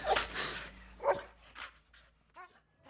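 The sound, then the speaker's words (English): A dog barks several times in quick, uneven bursts, loud, ending with a few higher yips and whining sounds as it trails off. “I'm not looking after that dog.”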